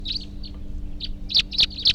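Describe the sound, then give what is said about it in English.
A bird, numbered 340 (type 3), chirps at 11:20 a.m. in a quick series of high, bright notes, starting softly and ending with three louder, evenly spaced tweets over a low steady hum. “There may be wild birds coming around here now.”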